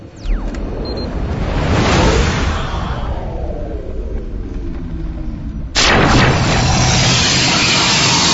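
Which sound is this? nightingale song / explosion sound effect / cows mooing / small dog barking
explosion sound effect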